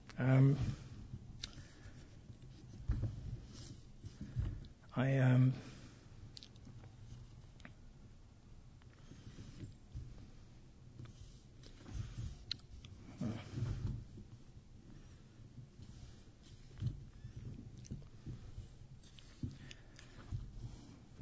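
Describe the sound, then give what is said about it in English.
Sheets of paper rustle and crinkle as someone shuffles through them, with intermittent soft scrapes and a couple of louder handling bursts early on. “I've got so many pieces of paper here that can't figure out which is which.”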